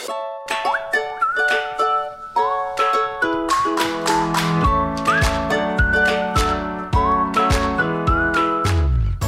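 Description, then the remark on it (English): A bright whistled melody glides over a steady rhythmic backing track with punchy percussive hits, playing continuously and fairly loud with no talking. “Well, it does feel a little strange coming off that whistle music and talking about hell.”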